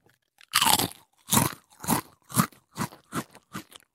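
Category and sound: food or drink, crunching a potato chip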